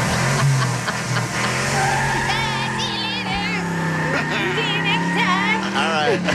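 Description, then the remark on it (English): Tires screech loudly as a woman's car revs hard and speeds away at the end of a date, with the engine roaring and sharp squeals rising and falling throughout. “Did she speed away when she got into her car? I didn't see that, but I did hear tire screech.”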